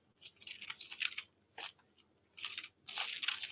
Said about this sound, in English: In 1 Chronicles 5, you can hear my pages turning.